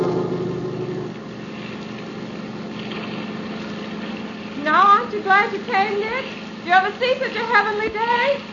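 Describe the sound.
A speedboat engine runs with a steady, low droning hum throughout as the boat heads toward an island, and partway through, voices start talking over the constant motor noise.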